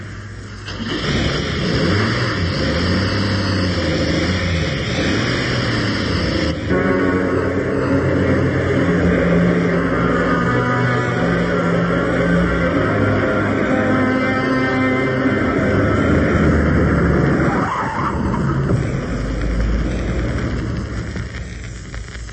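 A car engine drones steadily for the whole stretch, with a rising, whining pitch in the middle as it accelerates, over constant road rumble, as the car drives to the police station. No one speaks.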